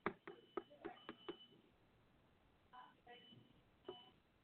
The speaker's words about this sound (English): That knock that you just heard is opportunity knocking at your door.